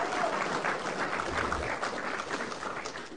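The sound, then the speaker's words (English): An audience claps steadily for a woman who runs the parenting programs, a dense crackle of many hands blending into a sustained, even roar of applause with no voices standing out. “Diane does all our parenting programs and I think she deserves a huge round of applause.”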